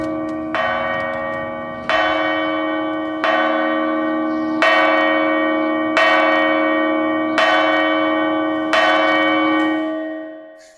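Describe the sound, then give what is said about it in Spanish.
A church bell tolls slowly and steadily at twelve o'clock, seven resonant strikes about a second and a half apart, each ringing out and overlapping the next before fading at the end. No voices. “Las 12. Y no estás aquí, Miguel Moreno, sacristán y tocador de campanas”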